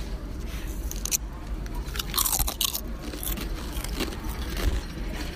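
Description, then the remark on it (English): Loud, crisp crunching of a spicy chip being bitten and chewed, a run of sharp irregular crackles over a few seconds with no talking. “First impression, does not actually smell strong at all. It smells like barbecue chips.”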